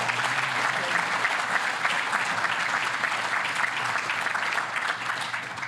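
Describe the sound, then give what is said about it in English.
Sustained audience applause fills the room, a dense steady wash of many hands clapping at an even loudness for several seconds, tapering only slightly at the end. “We have about 5 minutes or so, but before we open it up to the audience, can we just get a round of applause for our awesome?”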